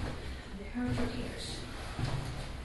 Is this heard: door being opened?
yes